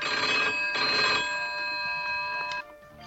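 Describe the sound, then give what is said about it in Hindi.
A telephone rings in two loud bursts with sustained bright tones, the second burst fading into a lingering ring that cuts off near the end; no one speaks. “Phone बज रहा है, फोन उठाने की आदत नहीं रही क्या?”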